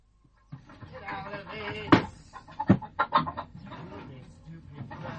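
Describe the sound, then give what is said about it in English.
Chickens clucking busily in a henhouse, a steady chorus of hen noises with a few sharper squawks, with some voices mixed in among the birds. “You can start with the pigs or the chickens.”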